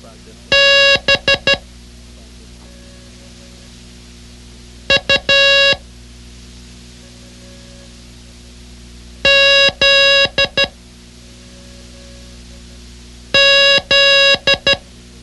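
Morse code tones spelling out the word "buzz" (B-U-Z-Z): loud, sharp electronic beeps of short and long lengths, sent in four quick clusters separated by pauses of a few seconds, with a faint steady hum underneath.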